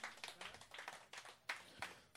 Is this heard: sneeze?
no